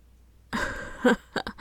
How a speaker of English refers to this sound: No, I'm not. Shut up. I'm just breathing hard because I'm exerting myself. I'm not getting turned on.